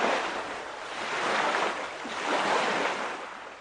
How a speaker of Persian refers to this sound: به به موجه های ریز ریز دریا که داره میزنه به کنار ساحل، و این موجها و این صدای دریا رو فقط سیادا و دریانوردایی که میرفتن به دل دریا میزدن میتونن سیمون توصیف بکنن.